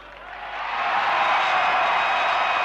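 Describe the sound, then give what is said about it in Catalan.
A large crowd in Barcelona breaks into a loud, sustained gala ovation after the words of Mr. Massó, the dense clapping swelling over the first second and then holding steady without letup. “Ovación de gala que rubrica les paraules del senyor Massó.”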